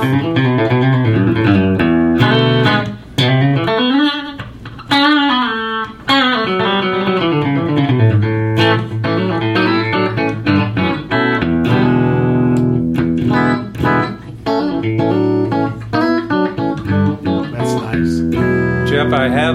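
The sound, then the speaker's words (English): Electric guitar in an in-between pickup position plays a continuous run of bright, twangy notes and chords with sliding bends, loud and steady throughout, with no voices over it. “That's a little bit of that sort of in-between pickup like a Strat will get.”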